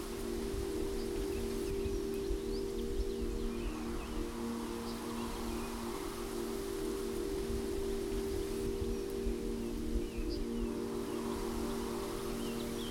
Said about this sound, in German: Der Wind wirbelt auch die Blätter auf dem Boden ordentlich durch die Luft. In den schönsten Farben tanzen, schweben und gleiten sie vor dir her.